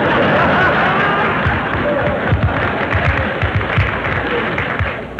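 Loud, sustained audience applause for a performer's entrance on stage fills the whole stretch, a dense steady wash of many hands clapping with a faint murmur of crowd noise mixed in.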